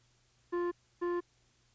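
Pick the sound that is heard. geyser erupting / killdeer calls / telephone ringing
telephone ringing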